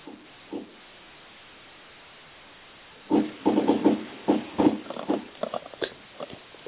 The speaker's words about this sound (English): Are you able to hear me when I'm typing? It sounds like a shotgun going off.